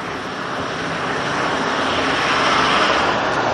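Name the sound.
noisy truck passing by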